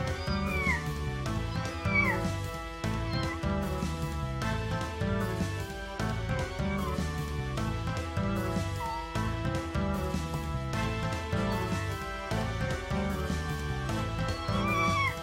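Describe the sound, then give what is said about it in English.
A man's voice imitates a cat, letting out a string of drawn-out, wavering meows over a dense, steady rhythmic backdrop that continues throughout. “I'm trying to be a bird and this guy's trying to be a kitty cat.”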